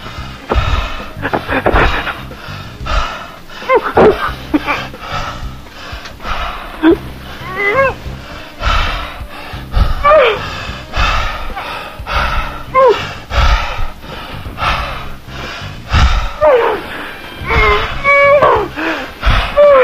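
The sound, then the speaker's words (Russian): Deep, heavy breathing, a steady run of loud, breathy inhales and exhales with occasional rough, wheezy edges, continuing without any words throughout. “Ну что, я дышу тебе глубоко-глубоко вовнутрь. Ты слышишь мое дыхание?”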